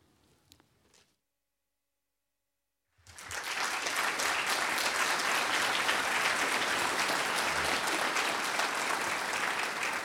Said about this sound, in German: Ja, ihr könnt gerne klatschen, wenn euch was gefällt. Kein Problem, ne? Während des ganzen Kongresses.